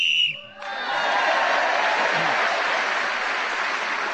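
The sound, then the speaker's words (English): A short, shrill whistle blast, blown to end a round of the game Just a Minute, sounds for about half a second, then loud applause from an audience immediately takes over and continues steadily to the end. “Whoever is speaking in this game when the whistle is blown gains an extra point on this occasion with Sheila Hancock.”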